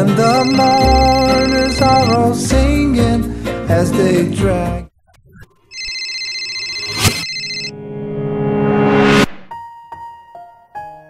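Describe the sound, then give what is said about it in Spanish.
After a few seconds of busy music, a mobile phone's synthetic electronic ringtone sounds as steady, bright repeating tones, followed by a rising electronic sweep and a few softer tonal notes. “Pero en ese instante sonó el celular.”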